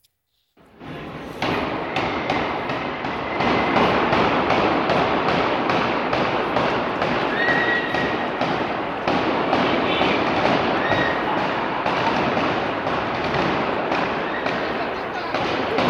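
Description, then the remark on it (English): Automatic gunfire from gunmen storming a concert hall rattles in rapid, sustained bursts for nearly the whole stretch, loud and echoing inside the hall, with a dense wash of crowd noise and shouting voices underneath as people start to run. “Hear the automatic gunfire as people start to run.”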